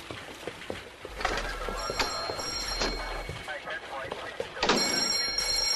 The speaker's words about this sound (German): Als die 3 Detektive eintraten, klingelte Kotters Telefon.